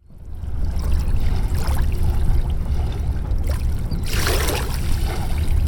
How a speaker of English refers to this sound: Kyle Carter wants more people to enjoy the sound of the Mississippi River, and he wants them to experience the Davenport Riverfront more often and in different ways.